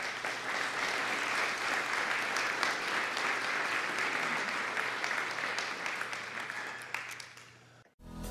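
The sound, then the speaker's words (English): A church audience claps steadily in a dense, sustained wash of applause for a woman who has just shared her story; it holds for about seven seconds, then tapers and cuts off abruptly; no voices stand out. “Let's give McKenna a hand, okay?”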